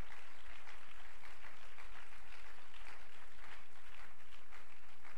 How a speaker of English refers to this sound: Would you clap your hands to him right now? Let's praise him.